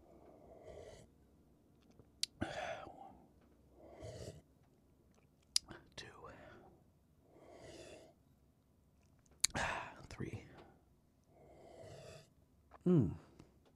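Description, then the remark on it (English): Quiet sips from a drink, repeated several times with brief pauses, soft slurps and swallows broken by a few sharp lip and glass clicks and faint breaths. “That's four sips.”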